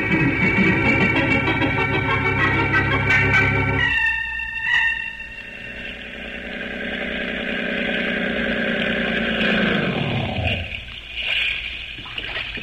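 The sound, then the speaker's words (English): A motorboat engine runs loud with a steady droning hum, shifts tone partway through, then winds down in pitch as it slows, with faint water splashing underneath. “I think we'll take a little boat ride.”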